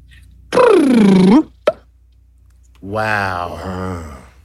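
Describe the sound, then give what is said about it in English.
A humpback whale whoop call: a loud, tonal call with rich harmonics that swoops down in pitch and then curls back up, followed by a brief pop and a longer, lower voiced moan. “So that is a sound that humpback whales worldwide all produce.”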